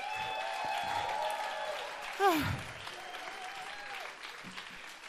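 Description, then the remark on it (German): An audience applauds all four poets, a steady, dense wash of clapping with a few whistles and cheers rising above it, including a brief louder swell near the middle. “Also, Applaus für alle 4 Poeten.”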